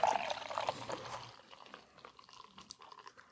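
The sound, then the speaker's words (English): Beer glugs and splashes as it's poured from a can of Weldworks Brewing Juicy Bits, a New England style beer, loudest in the first second, then thinning into a soft fizzing crackle of foam. Clear, with no voices. “Yeah, even the pour sounds juicy.”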